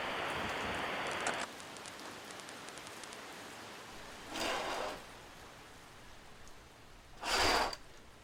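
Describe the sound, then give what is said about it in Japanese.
Steady rain hisses throughout at a moderate level, heavier at the start, with two brief louder swells of splashing noise later on. No voices. “じゃあやまないね、これ だね。 傘ないね。”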